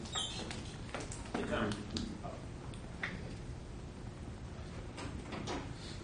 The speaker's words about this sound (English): Did you open that side door?